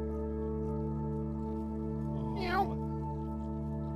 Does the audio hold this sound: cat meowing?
yes